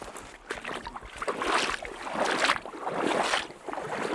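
Water sloshing and churning in steady, rhythmic surges, like someone wading through a flowing stream, heard up close with no voices.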